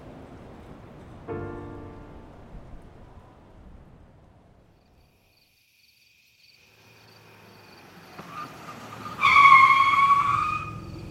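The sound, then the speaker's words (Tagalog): A car rolls up with a rising engine hum, then brakes to a halt with a loud, shrill squeal lasting about a second. A brief rumble sounds earlier, and no one speaks. “Nagtaas ako ng paningin mula sa pagkakatitig sa kawalan ng isang sasakyan ang humimpil sa aking harapan.”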